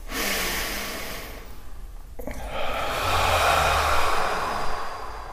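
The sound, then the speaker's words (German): A slow, deep breath drawn in through the nose, a brief pause, then a long airy exhale, with no talking; one of three deep breaths taken together in a guided breathing exercise with eyes closed. “Wir machen mal 3 ganz tiefe Atemzüge gemeinsam. Atmen gemeinsam ein.”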